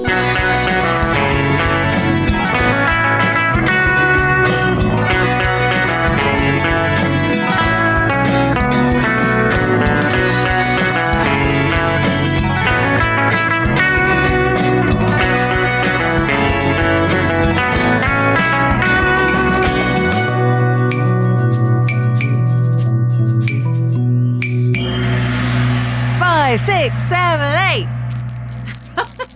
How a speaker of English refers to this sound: Supposed to be sleigh bells, but it's actually off the Christmas tree.